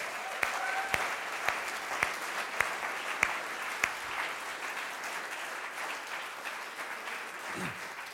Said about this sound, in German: Herzlichen Applaus für unsere Schauspieler.